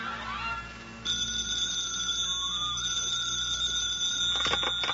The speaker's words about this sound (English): It is morning in the Montague apartment. His wife, Lily, and Agnes the maid are awaiting his arrival at the breakfast table. The phone rings.